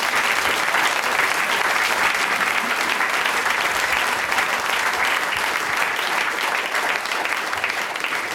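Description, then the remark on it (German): Sustained applause from a large audience for student musicians on stage, a dense, steady wash of clapping that stays loud and even for about eight seconds, with no speech over it. “Ja, Riesenapplaus.”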